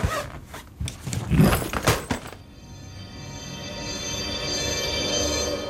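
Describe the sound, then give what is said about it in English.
A suitcase zipper rasps open in a quick series of gritty, uneven pulls lasting about two seconds, followed by a steady, faint hum with no voices. “Now open your case.”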